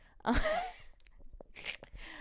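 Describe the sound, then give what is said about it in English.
A single sharp, voiced sneeze bursts out near the start, loud and brief, followed by quieter rustling and faint breathy, clicking sounds. “because bless you.”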